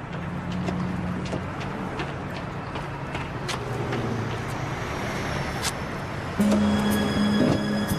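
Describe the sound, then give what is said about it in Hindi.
A car drives along with a steady engine drone and road rumble throughout, scattered clicks and knocks on top, and a louder, higher-pitched engine tone in the last seconds. No one speaks. “मैं सोच रहा था अगर मेरे किसी जानने वाले ने मुझे इस गाड़ी को चलाते हुए देख लिया तो वो तो इसी जगह बेहोश हो जाएगा।”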